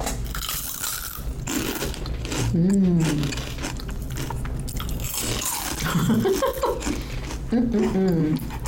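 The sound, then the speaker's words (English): Crisp, crackly crunching of ranch flavored veggie straws being bitten and chewed, steady and fairly loud, with short voiced hums and murmurs breaking in between the bites. “I actually brought ranch flavored veggie straws today. Maybe we'll do an ASMR later.”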